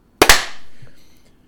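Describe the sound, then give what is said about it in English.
Two sharp hand claps land a split second apart, a group clapping on a count of three at the start of a recording, almost but not quite together, followed by a short fading ring and then quiet. “On three, clap.”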